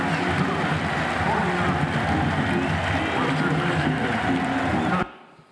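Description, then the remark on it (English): A stadium crowd at a USC football game cheers a good snap by blind player Jake Olson in a loud, sustained roar that holds steady for about five seconds and then cuts off abruptly. “Listen to the crowd.”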